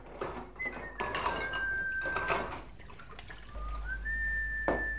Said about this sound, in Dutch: Remy, pak eens een theedoek. Dan kun je me helpen met de afwas.